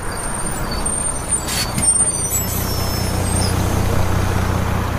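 A bus idles with a steady low engine rumble, broken by a few sharp bursts of air-brake hissing partway through, during a tour of a nuclear power plant site. No one speaks.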